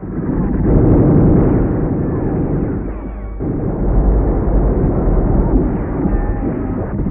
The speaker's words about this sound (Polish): 12 października, 6 rano. Pierwszy pułk artylerii lekkiej otwiera ogień ze wszystkich swoich baterii. Po 15 minutach kanonady batalion rusza.